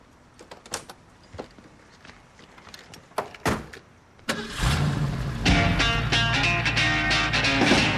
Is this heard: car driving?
yes